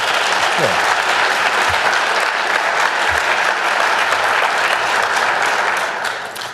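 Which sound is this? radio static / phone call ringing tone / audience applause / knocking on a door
audience applause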